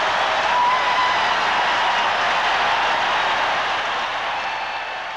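arena crowd roaring

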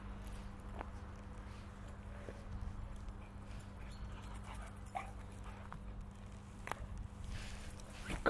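dog whimpering

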